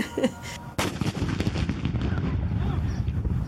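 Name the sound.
ceremonial cannon firing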